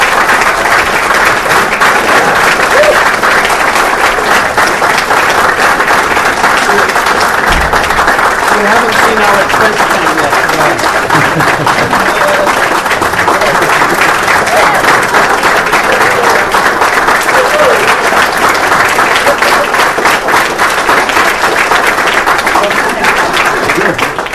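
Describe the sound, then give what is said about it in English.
An audience at a conference applauds the organizers' work loudly and steadily for about twenty-four seconds, a dense, even wash of many hands clapping that never fades, with faint voices mixed into the noise. “So just can we all give a round of applause for that wonderful work?”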